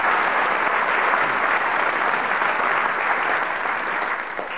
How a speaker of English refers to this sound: They're the …! Very good. Give them another round of applause.